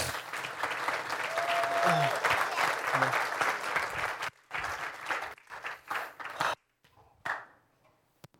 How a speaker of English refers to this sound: So if you guys can give him a round of applause.